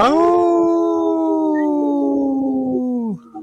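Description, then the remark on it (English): A wolf lets out one long, loud howl, holding a steady pitch for about three seconds before sliding down and trailing off. Clear, with no talking. “we say no, and we speak wolf now. We go, ooh.”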